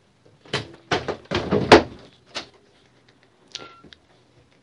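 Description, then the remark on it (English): A door swings shut with a couple of solid thunks, followed by the clicks and metallic rattle of a lock being turned, with no talking. “Yes, Father, I'll lock the door.”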